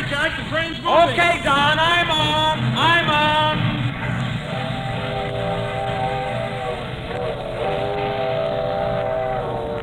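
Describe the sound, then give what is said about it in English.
A train bound for New York pulls out of a station with a long, steady steam whistle sounding over a dense rumble, while voices call out on a busy, echoing platform. “The train's moving.”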